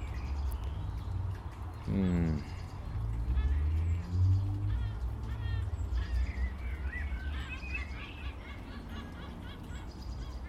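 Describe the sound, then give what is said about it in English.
A seagull lets out a loud, harmonic cry midway through, followed by scattered fainter bird calls over a steady low outdoor rumble, with no one speaking, on a warm, sunny day. “Don't know why that seagull finds it funny.”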